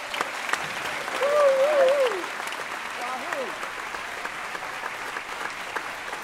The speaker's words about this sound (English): Let's give him a Kirkland round of applause